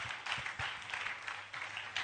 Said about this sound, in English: Oh, you can clap.